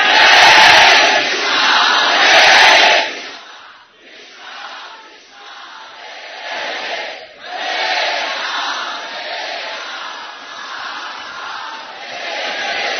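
A crowd of about 3,500 devotees roars together in a loud, sustained chant, strongest at the start, then dipping briefly before swelling again into a steady collective shout.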